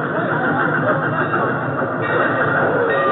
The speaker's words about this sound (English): Finally, on April 1st, 1910, the first locomotive reached Yunnan from Hanoi.